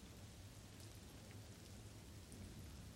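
rain falling

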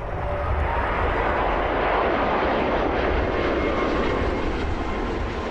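airplane landing

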